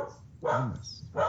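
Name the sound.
dog barking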